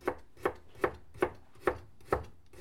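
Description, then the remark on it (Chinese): A knife chops vegetables on a cutting board in seven sharp, evenly spaced strokes at a steady, unhurried rhythm, with no voices. “你切菜慢点儿，别受伤了。”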